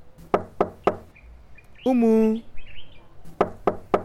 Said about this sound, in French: Oh, qu'est-ce qu'il y a? Pourquoi tu tapes à ma porte?